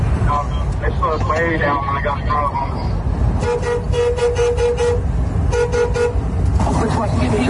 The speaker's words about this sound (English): Road rage. Maybe they just thought they were at a speech with all everybody honking.